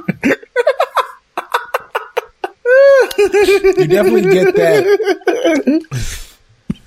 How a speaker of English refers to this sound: He's burping. He's twitching. What is going on?